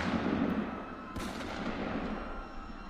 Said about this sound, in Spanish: Entre los que corrían huyendo de la policía estaba Arturo Ruiz, estudiante granadino emigrado a Madrid junto a su familia, cuando el fascista José Ignacio Fernández Guaza le pegó dos tiros, matándole en el acto.